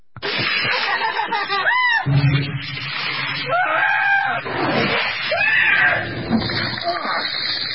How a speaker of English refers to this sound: I want to see if you're going to be able to scream like the montage you did yesterday, which was so funny.